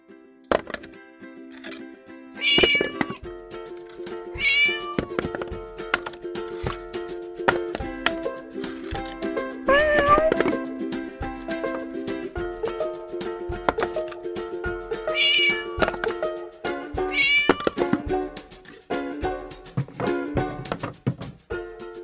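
Several short cat meows ring out at intervals over a steady, tonal musical backing, each cry loud. No one speaks.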